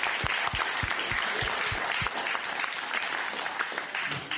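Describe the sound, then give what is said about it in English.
An audience applauds the people who led the worship, a dense wash of many hands clapping at an even, sustained loudness, with a few sharper individual claps standing out early on. “An applause to you all of you.”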